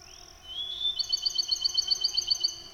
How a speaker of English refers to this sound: Oh my, the musical songs of a Bachman sparrow. And there he is on a limb in a pine, silhouetted against the pale orange sky.